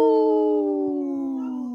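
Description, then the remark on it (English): A wolf named Wendy howls in one long, steady, tonal note that slowly slides lower in pitch, fairly loud and clear with no other sounds around it. “We heard Wendy in the background there howling.”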